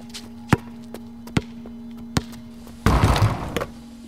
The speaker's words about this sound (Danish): Og så var der en nabo, som med naberklør forsøgte at stoppe vores læhegn, som vi ville have på grund af deres søn spillede basket. Og vi havde den der dunk-dunk-dunk-dunk-bunk, dunk-dunk-dunk-dunk-bunk.